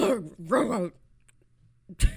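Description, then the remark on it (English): A person's voice mimics a dog's retching before it vomits: two strained, gagging heaves back to back, a short pause, then a harsh throaty burst, fairly loud. “She says it sounds like the noise her dog makes before her dog's about to throw up.”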